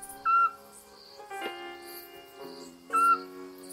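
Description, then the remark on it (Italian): A scops owl gives two short, mellow whistled notes about three seconds apart, clear, with a soft, sustained tonal drone underneath, on a still evening. “Di nuovo la civetta. Il pianto dell'assiolo.”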